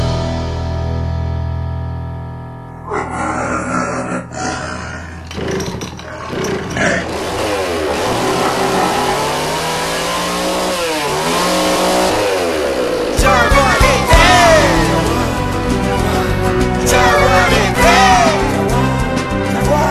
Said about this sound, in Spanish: Aúllan las motosierras y el monte desaparece.